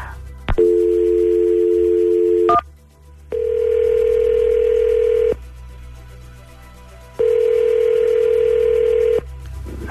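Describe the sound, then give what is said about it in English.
A steady two-tone telephone dial tone for about two seconds, then two evenly spaced ringback tones of an outgoing call, each ringing around two seconds with pauses between. No voices. “Let's give him a phone call and let's see what happens, okay?”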